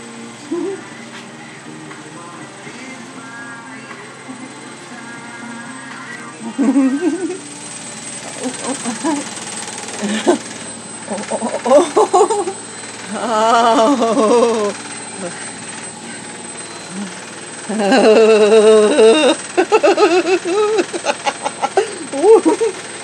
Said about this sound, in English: Oh, well, the washing machine's really going for it now.